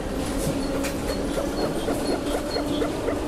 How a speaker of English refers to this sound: That's a frog, a German frog. I can tell.